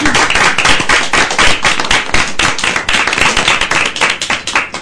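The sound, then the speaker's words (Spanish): A burst of audience applause at a live radio event, called for by the host, many hands clapping in a dense, steady patter that stays loud for several seconds with no voices over it. “Un aplauso.”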